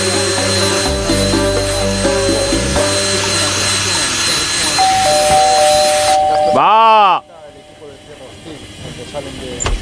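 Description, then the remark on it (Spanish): A loud power drill whines steadily for several seconds, ends with a sharp rising-and-falling whirr, then cuts off, leaving quieter background noise with muffled voices underneath; a neighbour is drilling at home doing small DIY repairs. “2 días he contado que llevas dándole al taladro.”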